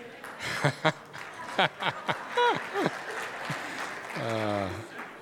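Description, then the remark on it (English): An audience claps during worship in a steady, dense patter, with scattered voices, short chuckles and a drawn-out vocal call rising above the applause near the end. “You didn't have to clap to that.”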